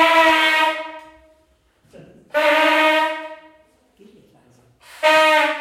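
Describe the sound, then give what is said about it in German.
A night watchman in a long black cloak and black feathered hat blows a signal horn as a test alarm: three loud, sustained blasts, each about a second long with short pauses between them. The last blast is cut off at the end. “Der hat eine Öllampe dabei und ein Signalhorn.”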